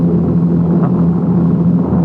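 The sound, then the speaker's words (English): A steady, droning engine rumble of bomber airplanes passing overhead and headed this way, low and continuous with a strong hum, filling the whole moment without any voices. “I hear airplanes. Bomber. They're headed this way.”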